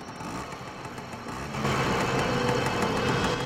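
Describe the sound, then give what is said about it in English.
A small motor scooter engine buzzes steadily at dusk, then grows louder about halfway through as it rides into the entrance of a motel. No voices are heard. “At dusk, Sarah's riding her scooter into the entrance of a motel.”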